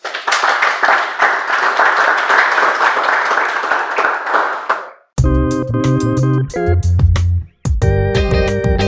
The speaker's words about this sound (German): In dem Sinn gebe ich an die Gastgeberin, Gastgeber zurück, bedanke mich bei Ihnen sehr herzlich, bedanke mich beim Podium und bitte um einen großen Applaus.